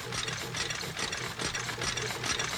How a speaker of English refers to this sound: Cotton candy hangs on a crisscross of clotheslines overhead as the wheels and gears of a fire truck red taffy machine spit out 145 pieces a minute.